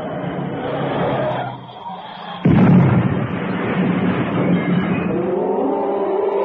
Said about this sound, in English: for Cannon's car had swerved into the rock face